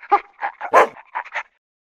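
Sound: dog whimpering and barking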